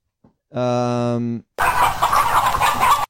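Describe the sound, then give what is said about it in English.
A loud, drawn-out crowing call lasting about a second, then a sudden burst of busy, overlapping chicken clucking and squawking from a flock, noisy, played as a sound effect. “Oh, I don't know why I hit chickens.”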